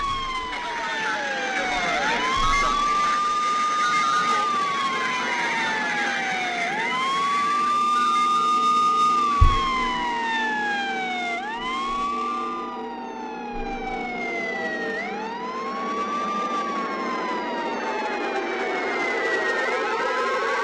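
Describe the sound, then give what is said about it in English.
A loud emergency siren wails in long rising and falling sweeps, repeating steadily for the whole stretch, with a low rumble of traffic underneath. “I didn't know this siren thing was gonna go on this long.”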